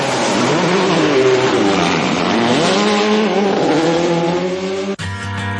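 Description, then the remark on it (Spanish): A loud car engine revs hard and accelerates, its pitch sweeping up and down for several seconds before cutting abruptly into a steady, lower engine drone at the end. “Ahora pisamos a fondo el acelerador y enroscamos el puño de gas.”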